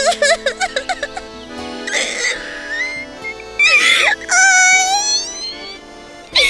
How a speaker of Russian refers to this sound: Вот заяц опять сидит и плачет.